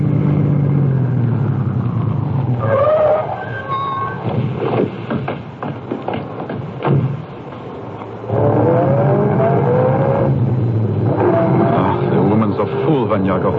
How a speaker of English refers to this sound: I shall stop the car now and let you off.